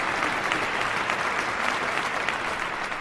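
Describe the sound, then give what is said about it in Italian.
A studio audience claps steadily and continuously, a dense, even wash of many hands applauding, with no speech over it. “Un applauso alla mia scorta di avvocati penalisti, pronti a difendermi dalle querele.”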